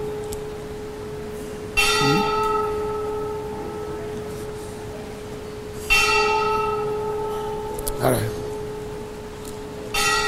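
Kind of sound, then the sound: signal or alarm, bell ringing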